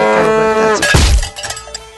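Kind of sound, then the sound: animal, cow mooing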